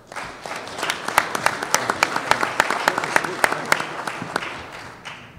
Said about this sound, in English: so everyone give a round of applause for